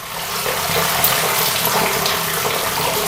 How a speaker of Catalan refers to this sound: La que utilitzem a casa, i que ve de lavabo, que ve de la dutxa, les aigües negres, les que van directament al procés de neteja de les aigües que s'han utilitzat. Sí. Doncs aquestes són les aigües negres.